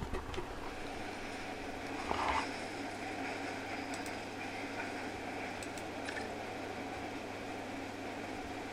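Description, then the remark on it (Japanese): A steady train interior rumble from a Galaxy Railway ambient sound added in a work-along game, with a low constant hum, occasional faint clicks and knocks over the continuous drone, no voices, at an even moderate level throughout. “これなんだ、銀河鉄道の環境音が追加されました。”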